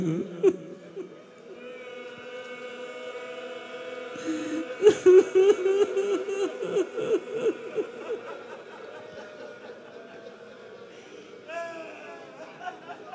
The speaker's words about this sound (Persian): خدای دلو ازت نگیره، من که برات روزه نخوندم هنوز، دارم روایت میخوانم و گریه میکنی.